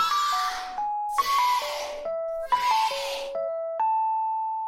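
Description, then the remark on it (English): A cell phone ringtone plays a short, bright stepped melody of electronic tones, repeating three times in a steady rhythm and ending on one held note. No one speaks. “So you can listen to this cell phone ring again and again and never quite be satisfied that you truly know it, that you truly understand it.”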